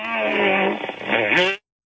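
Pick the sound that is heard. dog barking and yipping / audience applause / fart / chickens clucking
fart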